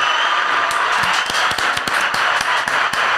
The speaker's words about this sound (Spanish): Ok, ¿estamos listos, muchachos? Bueno, un aplauso.